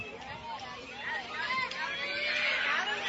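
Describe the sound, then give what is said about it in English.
Spectators on both sides of the stands call out and cheer encouragement for their team during a ball game, a steady mass of overlapping voices with scattered higher shouts rising above the babble, growing slightly louder toward the end. “And words of encouragement from both sides of the stands. Cheering their team on.”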